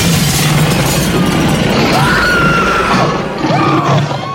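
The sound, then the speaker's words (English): Glass is deliberately broken in, shattering in a long, loud, continuous crash of breaking and scattering debris, lasting several seconds, with high wavering cries rising and falling over the noise. “Well, let's break in the glass at least.”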